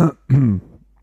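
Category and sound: human body sound, throat clearing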